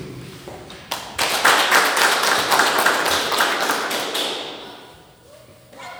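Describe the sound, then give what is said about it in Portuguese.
A round of applause from a group at the opening of a formal session: dense, crisp clapping that starts abruptly, holds steady for a few seconds, then thins out and fades, with no talking over it. “Convido a todos para saudar com a minha salva de palmas e logo em seguida peço ao secretário que faça a leitura de ofício.”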